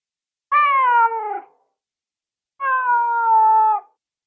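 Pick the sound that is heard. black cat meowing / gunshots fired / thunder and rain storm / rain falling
black cat meowing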